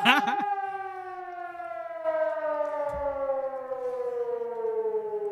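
A loud civil defense siren sounding alarm stage B wails steadily, its rich harmonic tone sliding slowly downward in pitch as it holds for several seconds without pause.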